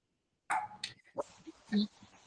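Several sharp dog barks and yips from a speaker's dogs in the background during a meeting come in quick, irregular bursts, fairly loud, with a busy, muffled background between them.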